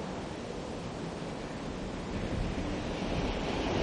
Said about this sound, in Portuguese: Auga esmagadora e torrencial. Supos ben, parece como cando un carro de patacas emborca.